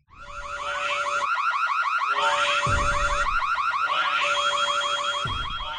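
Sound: alarm going off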